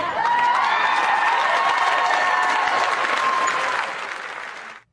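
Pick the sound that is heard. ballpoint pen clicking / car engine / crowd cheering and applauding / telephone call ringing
crowd cheering and applauding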